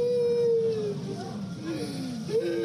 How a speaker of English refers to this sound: The sound of children and their parents wailing, some critically wounded, others screaming to the lifeless bodies of their loved ones.